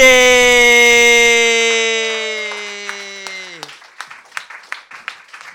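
A loud, sustained shout of cheering from an audience for a performer holds steady for a few seconds, then fades into scattered, uneven handclaps.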